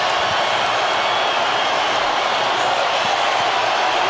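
A large arena crowd of Nuggets fans cheers in a loud, sustained roar as the Nuggets win the championship, holding steady for several seconds with no voices speaking over it.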